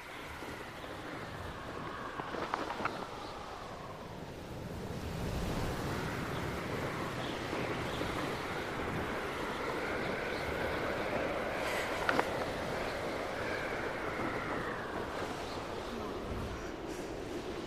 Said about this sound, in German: Liebe Hörerinnen und Hörer meines kleinen Abenteuers, ich hoffe, ihr könnt mich bei all dem Wind gut verstehen.